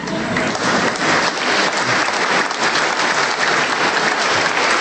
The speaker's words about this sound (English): Kit is here today, and I believe he also deserves a round of applause and perhaps his own retirement plan.